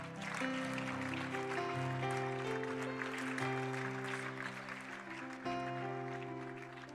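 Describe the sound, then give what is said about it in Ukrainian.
A crowd at a church service claps steadily throughout as people are invited to walk to the foyer, while sustained keyboard chords play loudly, the applause forming a continuous crackling wash beneath the music. “Прямо зараз можна проходити під наші оплески.”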